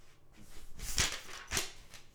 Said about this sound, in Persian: میخوام یه قسمتی رو براتون بیارم که تغییر نکرده باشه، اگه اجازه بدید یه لحظه این رو دارم آماده میکنم. کتاب رو ورق بزنم تا اون قسمت بیاد.